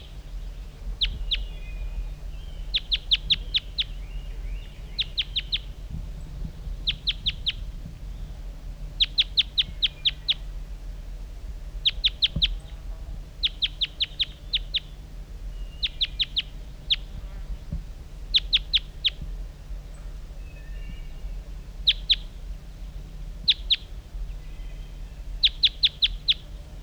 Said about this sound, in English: That's him calling. There he goes. Now he's up in that lone pitch pine. That's the wild bird.